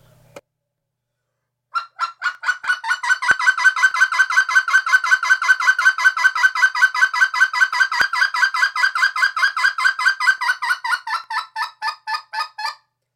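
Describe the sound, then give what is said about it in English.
A voice rapidly repeats short, clipped clucking yodel syllables in a steady rhythm for about eleven seconds, loud, each note slammed closed sharply as practice for closing notes in yodeling; the string sounds almost like a honking fowl. “My advice, if you want to learn how to close the note, is to repetitively do cluck syllables and slam it closed, and then try to incorporate that in your yodels.”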